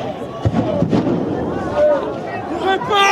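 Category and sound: impact, explosions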